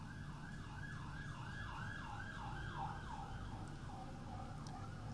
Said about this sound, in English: I stopped talking a little bit because one police car, I guess it was, with a siren, just drove by.